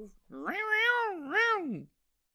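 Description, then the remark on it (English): A cat gives one long, drawn-out meow that swells, dips briefly, then rises again before trailing off downward, a loud two-part yowl with no talking over it. “What is your cat doing?”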